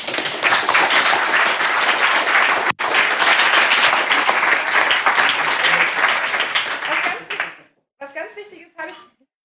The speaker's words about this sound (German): Und bitte noch mal meinen herzlichen Applaus.